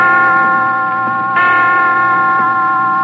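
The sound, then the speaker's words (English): Resonant hospital chimes strike five o'clock, ringing out with long, sustained tones. A fresh strike sounds partway through over the lingering hum of the previous ones, fairly loud with no voices. “5 o'clock. I didn't know the hospital had chimes.”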